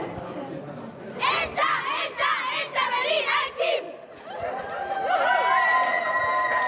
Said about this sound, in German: die Mädchen vom Verein FC Internationale Berlin ihren Schlachtruf machen wollen